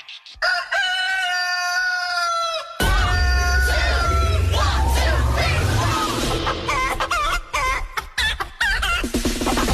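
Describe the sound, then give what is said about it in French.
A rooster's crow opens alone, then gets chopped and looped over a thumping techno beat, with repeated stuttering crow fragments riding loud on top of the electronic music. “tête de coq à la sauce techno.”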